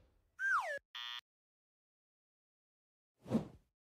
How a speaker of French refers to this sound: La porte qui claque.